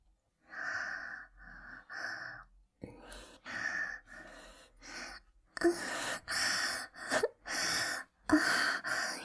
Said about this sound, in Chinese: 对了，机会难得，现在我就假装做爱给你看吧。你可以听我的喘息声，像个傻子一样再用力点晃动腰哦。